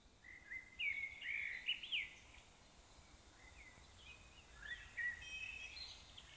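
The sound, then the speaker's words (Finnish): Birds chirp and sing in a quiet outdoor setting, with bright, warbling phrases in two bursts, one early and one later, with no voices. “Linnut näyttää olevan varmoja reiteistään.”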